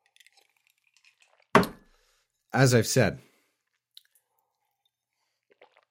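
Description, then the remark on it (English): A single quick slurp or gulp of water from a glass, with faint clicks around it, followed by a brief spoken phrase. “as I drink water to try to soothe my drinking throat,”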